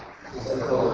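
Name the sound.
sneeze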